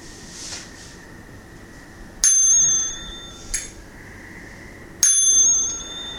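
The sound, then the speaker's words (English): A ceremonial bell is struck twice with a softer tap between, opening a chanted verse; each strike rings out clear and bright and slowly fades, with a quiet hush underneath and no voices. “Okay, so let's begin with the verse of the Kesa. And let's just, with bells.”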